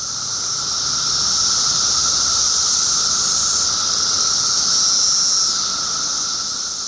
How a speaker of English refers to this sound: Nope, that's not a household generator or a low-flying airplane. Instead, it's the rhythmic thrum of cicadas, a staple of our summer soundscapes here in the United States.